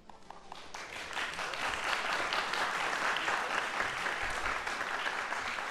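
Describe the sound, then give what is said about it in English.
Sustained applause from an audience at a University of Washington talk and concert in the Breishman Auditorium, December 7th, 2014, as Professor Robin McCabe comes on; a dense wash of many hands clapping that starts with a few scattered claps and quickly swells to a steady, full roar with no talking. “That's nice to applaud.”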